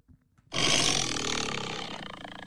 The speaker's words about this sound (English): Tiger? It's a tiger.